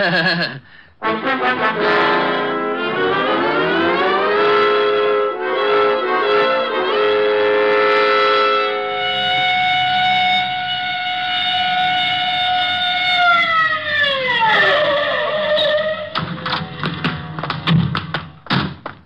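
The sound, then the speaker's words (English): A police car siren wails loudly, rising and falling in pitch, holding a steady howl, then winding down before a few thuds at the end. “All right, Otis. You can use the siren.”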